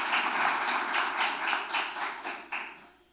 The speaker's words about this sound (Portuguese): Salva de palmas ao senhor Mauro Pedrosa da Silva.